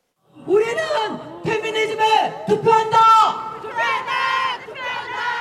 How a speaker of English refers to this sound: We vote for feminism. The crowd chants at a recent rally celebrating International Women's Day in Seoul.